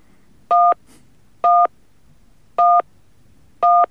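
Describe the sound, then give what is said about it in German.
Four separate keypad beeps as a password is entered, evenly spaced about a second apart, each a short steady dual tone, clear against a quiet background with no voices. “Please enter the password.”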